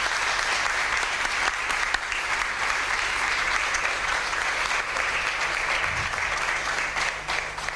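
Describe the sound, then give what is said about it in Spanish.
Sustained, dense audience applause at the 2024 main town festivities for nine child candidates for the title of child princess, a steady wash of many hands clapping at an even loudness without any voices breaking through. “Son nuestras 9 candidatas al título de princesa infantil que se posicionan un poquito más juntas para que podamos sacar esa fotografía para el recuerdo y el aplauso grande para todas ellas.”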